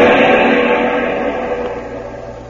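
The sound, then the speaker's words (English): A car engine runs with a steady, loud rumble and hum on the island of Java, fading slightly over a few seconds. No one speaks. “Stop the car, Thompson.”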